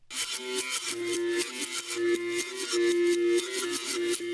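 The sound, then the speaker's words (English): A one-stringed Brazilian berimbau plays a steady rhythmic pattern of buzzy, metallic twanging notes, shifting between a couple of pitches, with a raspy, sawing edge throughout and no voices. “That metallic buzz you hear is the one-stringed Brazilian berimbau.”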